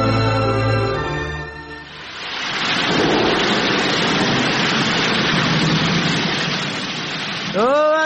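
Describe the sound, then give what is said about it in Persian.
A loud, steady roar of rushing floodwater surges in after a brief tonal opening and fills several seconds, with a voice breaking in briefly at the very end. “رالا بخی که سیل آمد.”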